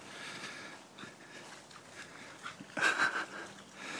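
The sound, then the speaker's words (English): A dog, Poppy, pants and breathes heavily while playing in a stream, against steady rushing water, with a brief louder burst of splashing and a high whine near the end. “Like little pleasures like watching my dog in a stream, you know, I haven't had.”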